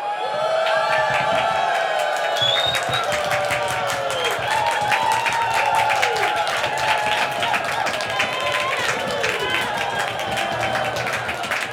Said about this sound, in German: Plötzlich hörte er Jubel.